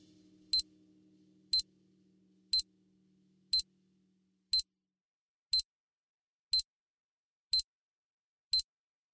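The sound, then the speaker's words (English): Nine sharp, high-pitched countdown beeps sound at a steady one-per-second pace, crisp and evenly spaced over silence, like a bomb timer ticking down, with a faint low hum fading out early on. “I really thought that it said count bomb countdown beeps, and so I sound effect, and so I thought that it was gonna end in a bomb, and it just didn't.”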